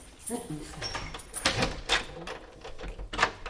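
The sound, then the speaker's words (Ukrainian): Jingle of a bunch of keys with sharp metallic clicks in a few bursts, like keys being tried in a lock, the wrong keys having been taken, while someone talks quietly. “Ой, Єзу Марія, ну не те ключі взяла. У мене ключі, мої, як у Святого Петра.”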